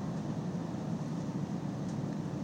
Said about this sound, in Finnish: Kuten tästä kuuluu, niin pendolinollakin on oma hurinansa ja kolinansa tuossa taustalla.